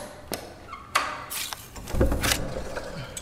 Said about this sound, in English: Open the door. Secure, foolhardy king. Shall I for love speak treason to thy face? Open the door, or I will break it open.